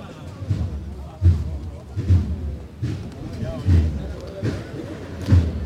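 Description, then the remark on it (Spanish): A heavy procession float (paso) of the Hermandad de la Misión being set down on Calle Ebro without a hammer signal, heard as a steady series of about seven dull, low thuds at even intervals, over a constant murmur of crowd voices. “Como hemos escuchado, no ha hecho falta toque de martillo para arriar el paso, que ya está en estos momentos ya arriado y se produce el relevo en estos momentos aquí en la calle Ebro.”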